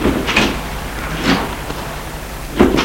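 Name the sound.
car doors closing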